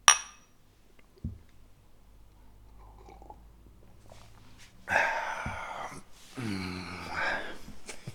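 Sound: glasses clinking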